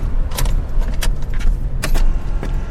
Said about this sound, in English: Just three clicks and her electric car is running.